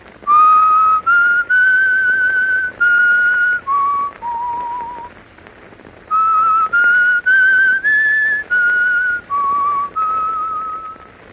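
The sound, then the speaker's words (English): A single person whistles a simple tune over the telephone, clear tonal notes rising and falling in short phrases, with a pause midway before the melody resumes and trails off as if unfinished. No talking. “I'll whistle the tune for you over the telephone.”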